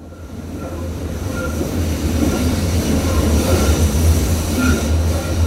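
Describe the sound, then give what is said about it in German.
A train rolls into a station with a steady, heavy low rumble and faint, intermittent metallic squeals from the wheels, fairly loud, with no voices. “Alles aussteigen. Dieser Zug endet hier und fährt zurück nach A.”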